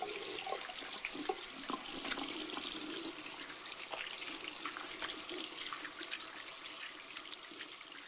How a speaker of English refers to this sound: Mom, can I help you do the cooking? All right, but first, wash your hands. Sure.